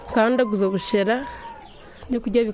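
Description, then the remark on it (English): Chickens, kept for a small family chicken business, cluck and squawk in a few drawn-out, wavering calls, with a short pause before a final burst, over a low background hiss. “It's the most mundane of scenes, smelly chickens, crying babies.”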